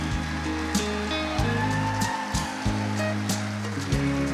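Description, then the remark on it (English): A morning audience applauds couples married more than 50 years, with steady, dense hand clapping that holds at an even level throughout, backed by sustained low musical tones and a few brief accents. No one speaks. “If you've been married more than 50 years, give them a hand clap.”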